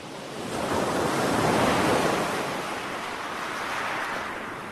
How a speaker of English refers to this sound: To start this episode, I thought we would take a brief dip into the relaxing waves of Shale Bay on the Isle of Wight, a recording recently shared by the British Library Sound Archive team, to bring a little comfort to those unable to visit the coast